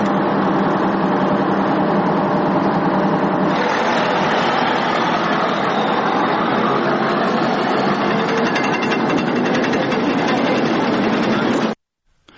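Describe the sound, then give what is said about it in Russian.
The engine of a tank under repair roars loudly and steadily, a dense, rumbling drone that shifts character a few seconds in and then cuts off abruptly near the end. “Цей танк відремонтуємо, поставимо на ноги і далі він поїде рубати орків.”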